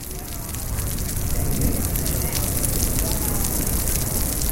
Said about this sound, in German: Über New Orleans geht einer der vielen typischen Wolkenbrüche nieder. Eine halbe Stunde Sintflut, dann dampfen die Stadt und die Sümpfe der Umgebung wie eine Ursuppe und das Leben krabbelt wieder aus allen Löchern.